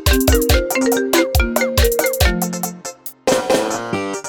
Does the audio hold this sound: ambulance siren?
no